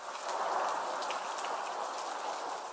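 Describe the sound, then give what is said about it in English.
Steady rain falls in a continuous, even hiss, with scattered brighter drops pattering through it. No voices, just the constant wash of rainfall. “Now, today, we talk about something found everywhere in the world, rain.”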